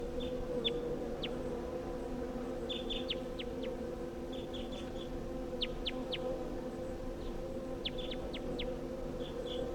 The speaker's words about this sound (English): Recording calls of that wild bird.